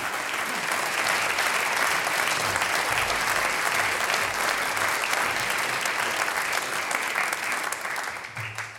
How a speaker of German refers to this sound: Dankeschön unseren Interviewpartnern und alles Gute, kriegst noch einmal einen Applaus. Danke.